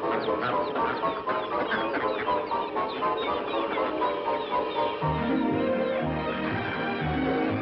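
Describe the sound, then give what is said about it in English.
A crowded flock of ducks at Disneyland quacks and chatters nonstop, loud, with overlapping calls and a low rumbling hum joining partway through. “No wonder when ducks fly into Disneyland, they make it their permanent home.”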